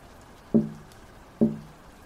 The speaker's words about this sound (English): Something tapped my window. I froze. It happened again.